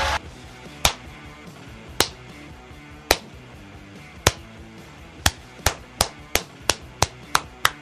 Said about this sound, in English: That is a slow clap for your Houston Rockets, who are on to the NBA Cup semifinals in Oklahoma City against the Thunder on Saturday night after a fun 91-90 victory over the Golden State Warriors to finally beat them after 15 straight losses